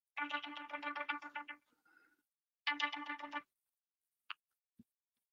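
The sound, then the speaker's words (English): A phone that was not muted rings with an unknown caller during a presentation: the ringtone plays in two loud bursts of rapid, pulsing electronic tones with a brief gap between them, followed by a couple of short isolated clicks. No one speaks. “Forgot to mute the phone.”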